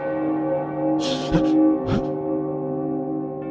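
A deep bell tolls once as a clock strikes one in the morning, its rich ringing tone hanging in the air and slowly fading, with a couple of brief whooshing swells passing over it.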